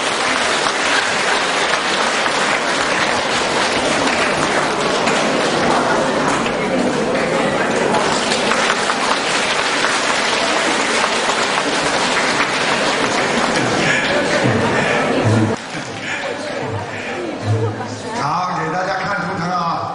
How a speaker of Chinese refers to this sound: 让我们用最热烈的掌声，恭喜我们尊敬的卢军红台长。